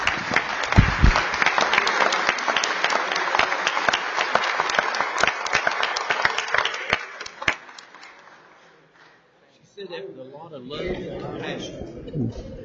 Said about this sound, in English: And it is his birthday yesterday, so please, well, give him a very big round of applause.